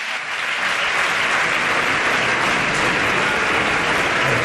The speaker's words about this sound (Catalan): Amb aplaudiments entre tots aquells que han participat a la votació i també part del públic que està a la part superior de l'hemicicle. Sentim els aplaudiments.